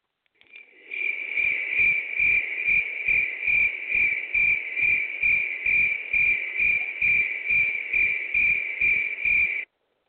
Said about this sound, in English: That's what we're hearing, crickets. Not a sound.